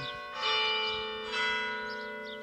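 A church bell rings out twice, each strike blooming into a long, shimmering hum of layered overtones that lingers and slowly fades, with no voices present.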